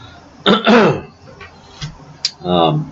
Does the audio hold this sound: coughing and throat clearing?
yes